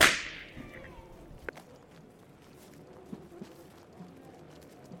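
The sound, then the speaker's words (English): A single sharp whip crack snaps loudly at the start, its bright burst fading quickly into a low, busy outdoor rumble with faint scattered taps and movement afterward. “silenced again by the crack of a whip.”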